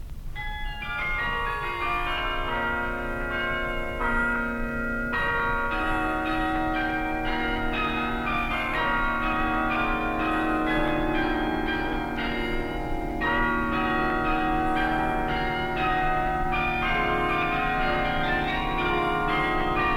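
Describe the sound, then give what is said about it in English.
Carillon bells of the Loughborough Carillon ring out a steady, sustained Dutch tune, many tuned bells overlapping in a rich, resonant wash that continues throughout at a consistent, fairly loud level with no talking. “The Loughborough Carillon, a Dutch tune played by Mr.”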